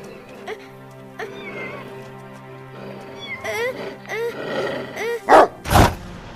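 A dog or wolf being chased away by the character Saori in a cartoon scene growls and yelps over a steady musical backdrop, ending with two loud, harsh bark-like bursts.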